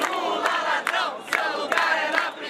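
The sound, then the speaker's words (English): A large protest march of Brazilians chants slogans in unison, 'Lula, thief, your place is in jail', while weaving through an upper-class neighborhood of Rio de Janeiro. Many voices merge into a loud, rhythmic roar with sharp bursts of emphasis recurring every second or so. “A mass of Brazilians weave through an upper-class neighborhood in Rio de Janeiro chanting, Lula, thief, your place is in jail.”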